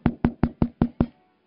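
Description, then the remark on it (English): Six quick, evenly spaced knocks on a door, each a solid, hollow thump at a steady rhythm, then silence. No voices accompany them. “And tonight, Jesus is knocking.”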